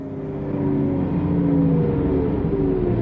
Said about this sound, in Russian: И вот появился автобус.